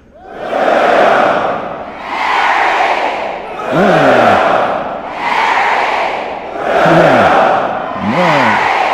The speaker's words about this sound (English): So I'm going to propose a cheer for William and Mary. We'll do it. Then I'll propose a cheer for 08. Ladies and gentlemen, graduates, friends, all of us, a cheer for the glorious College of William and Mary.